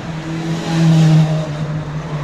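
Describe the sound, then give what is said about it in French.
A motorcycle engine revs, its deep steady drone swelling louder in the middle before easing back to a throaty idle, with no voices. “Là, ça fait plaisir ça, d'entendre ça. Une bonne moto comme ça.”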